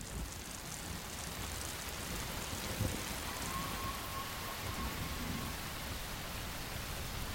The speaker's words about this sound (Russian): Начинается дождь.